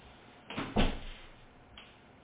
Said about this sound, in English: And give me a hot second here. Let me close my door to my office.